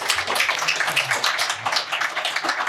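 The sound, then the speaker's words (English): An audience applauds the panelists as a panel session wraps up, a dense, bright wash of many hands clapping at once that holds at an even loudness for a few seconds. “And a big round of applause for all these guys.”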